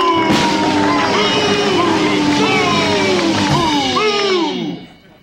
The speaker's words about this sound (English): But first, and without further ado, how about a big round of applause for Mr. Comedy,